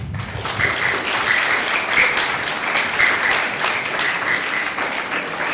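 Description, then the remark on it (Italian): A crowd applauds warmly, many hands clapping in a dense, steady wash of sound that holds at an even, fairly loud level for several seconds. “Adesso un applausone.”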